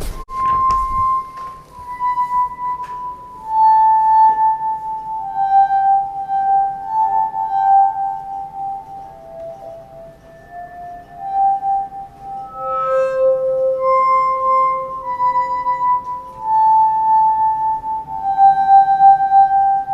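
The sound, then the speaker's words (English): A glass harmonica plays a slow, simple one-line melody, each pure, ringing tone sustained and gliding into the next, clear with no voices. “And now let me play a little bit of the actual glass harmonica performance”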